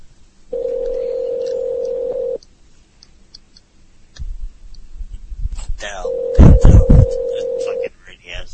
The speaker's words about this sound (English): Us being quiet while the phone rings. I prefer it. I love it. It's compelling radio.